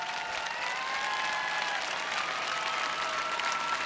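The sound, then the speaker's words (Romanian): Sustained applause from a crowd, a steady dense wash of clapping that holds at an even loudness throughout with no voices standing out, applauding to thank the people who helped. “Vreau să-i aplaudați și să le mulțumim pe această cale.”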